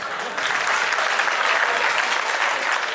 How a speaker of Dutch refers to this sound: Het is meestal de helft van de zaal die klapt bij deze opmerking. Nu ook.